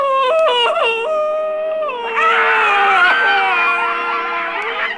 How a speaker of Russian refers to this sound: Сеньор Помидор схватил Чиполлино за волосы, желая задать ему взбучку, но из волос Чиполлино брызнул едкий луковый сок. Сеньор Помидор чихнул разок-другой и зарыдал в 3 ручья.